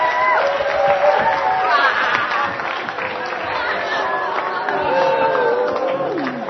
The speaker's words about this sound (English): We're going to go to the back and round. And everyone can clap and cheer as we go, okay? Come on.